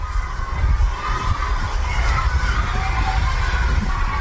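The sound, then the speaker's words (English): Detainees demonstrating inside the Dilley family detention facility in South Texas shout and chant "Let us out!" continuously, recorded outside on a Saturday, a dense, steady roar of many people with no single voice standing out, over a low rumbling background. “There's a demonstration of detainees taking place inside right now.”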